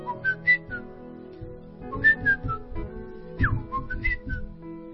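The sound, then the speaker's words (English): A person whistles a short, chirpy birdlike melody in three bursts, with quick high trills and sliding notes, imitating birdsong. Faint low background noise sits beneath the whistling. “I know that they say birds sing, but I never knew that they do actually sing melodies, serious melodies. You know, a bird would do like.”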